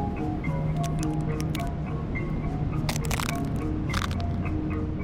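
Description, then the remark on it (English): Dried crab shells crunch and crackle as they are stomped on underfoot in several irregular, sharp bursts, a few louder crushing steps among smaller crackles, over a steady low background wash. “I stomp on dried up crab shells because I like this satisfying sound they make, and it reminds me a little bit of heartbreak.”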